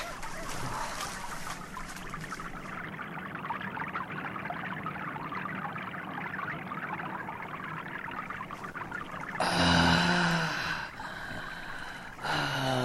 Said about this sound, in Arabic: يا له من ماء صافي وعذبا. أقسم أني لم أذق ماء عذبا في حياتي كعذوبة هذا الماء.